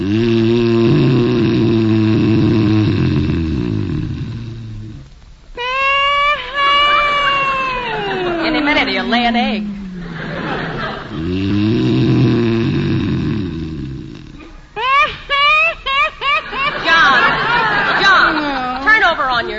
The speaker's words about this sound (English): You can stop that snoring if you want to. I know you can. No other man snores like you.